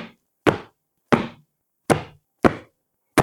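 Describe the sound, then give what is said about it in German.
Feet stamp to make music in a steady, unhurried rhythm: about five heavy thuds spaced evenly apart, fairly loud, each a short booming impact with no voices. “Und stampfen.”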